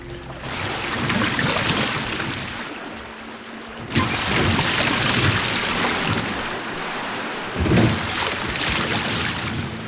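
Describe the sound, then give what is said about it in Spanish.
Water sounds of a paddle working a canoe on the Paraná River, paddled from the stern toward the middle of the river, with a steady wash of water and three strong splashing surges a few seconds apart; no voices. “Sentóse en la popa y comenzó a palear hasta el centro del Paraná.”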